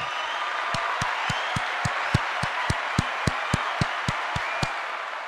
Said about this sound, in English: And I appreciate you for that. Matter of fact, this round of applause for you.